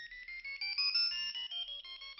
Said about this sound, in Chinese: 真的，就是我那个手机的铃声。我当时吓得赶紧关掉了收音机，可是天哪，那铃声并没有被我关掉。我这才发现，那铃声并不是从收音机里传出来的，那个手机 它就在我家的屋子里。